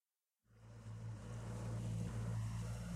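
A small boat's motor chugs steadily and monotonously while maneuvering through narrow canals in the late afternoon, a continuous low rumble that starts abruptly after a moment of silence, with faint wind and water noise around it.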